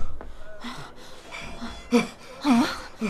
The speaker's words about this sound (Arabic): ما لك تلهث خائفا يا مرادي؟ جئتك مهرولا.